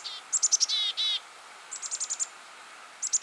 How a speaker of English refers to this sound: Those flock mates just need to listen for the number of D's that the chickadees are adding at the end of their calls. If it's more than 20, look out!